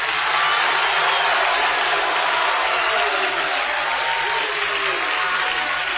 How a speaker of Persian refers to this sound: ما عقبی ها خواهرها یک کف مرتب بزنن، کف بزنم فقط. این صدای کف زدن خدایی. حالا شما بزنید.